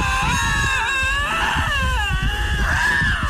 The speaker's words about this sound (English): This is a pair of lynxes engaging with one another, just Lynx.